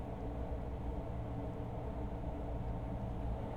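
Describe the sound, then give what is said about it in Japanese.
A steady, heavy low rumble of a train running along the tracks through a quiet, peaceful area at sunset, rolling on continuously at an even level without fading in or out. No voices are heard. “電車の音も心地いい。”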